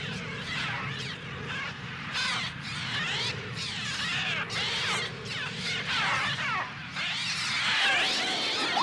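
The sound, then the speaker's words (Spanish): Dense, shrieking, electronically manipulated bird cries with an artificial, synthesized edge, rapid crow-like caws and swooping squeals layered over a steady low drone, loud and continuous with no talking. “Vamos a escuchar un poquito de esos sonidos de los pájaros manipulados electrónicamente.”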